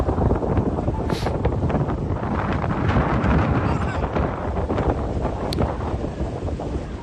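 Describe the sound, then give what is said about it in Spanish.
Strong wind roars and buffets the microphone nonstop, with the low, rumbling drone of a speedboat engine underneath, loud and steady throughout: a black semi-rigid boat with a powerful engine, capable of over 100 km/h, approaching at full speed against wind and tide near San Fernando, Spain. “Al fondo, a pesar del fuerte viento y de la marea, se acerca a toda velocidad una lancha.”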